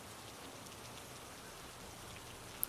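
rain falling

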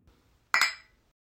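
glasses clinking

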